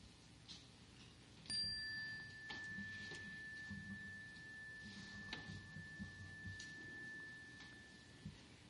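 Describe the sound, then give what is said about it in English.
A single meditation chime is struck to begin a meditation and rings out clearly, its bright tone sustaining and slowly fading for several seconds over a quiet, low background hum. No one speaks. “The meditation will begin and end with the sound of the chime.”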